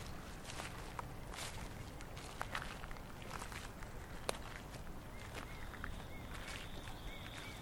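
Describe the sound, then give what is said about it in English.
Several people walk slowly outdoors at night, looking for nightingales, their irregular, soft crunching footsteps overlapping against a steady background hiss, with a few faint high chirps near the end. No one speaks. “We're all a bit unsure how to behave, whether we can talk, how slow or how fast we should be walking, and what we'll do if we don't find any nightingales.”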